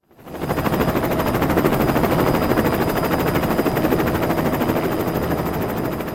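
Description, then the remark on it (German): A helicopter roars as it lands on a football field in a stadium, its rotor blades thudding in a rapid, steady chop that stays loud and constant throughout, with no voices. “Der Weihnachtsmann kommt mit dem Hubschrauber.”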